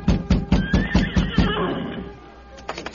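horse neighing

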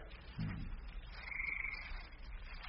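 frogs croaking

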